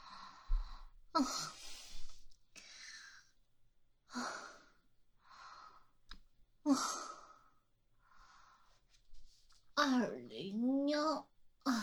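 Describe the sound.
Heavy, labored breathing from someone climbing the stairs after drinking, weak and with a headache: a series of loud, breathy exhales and sighs in uneven bursts, as if from exertion, ending with a strained, voiced groan.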